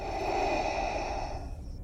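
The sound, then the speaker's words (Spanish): A single drawn-out, labored mechanical breath from a life-support device embedded in the wearer's skin that sends electrical pulses through the body to activate the lungs, a loud hissing rush with a metallic, tonal edge. It fades slightly at the end, with no voices. “De esta manera, a través de pulsos eléctricos, atravesaba todo su cuerpo para activar sus pulmones, lo que convertía cada respiración en todo un tormento.”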